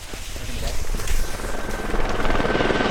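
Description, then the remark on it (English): A Temsco helicopter giving rides to townspeople roars, its rotor blades thumping in a rapid, steady rhythm over a loud engine whine that holds constant throughout. “The town came out in force, hiking up the icy Lower Dewey Trail or catching a ride on a chopper provided by Temsco helicopters to family or friendship bubbles of five or less.”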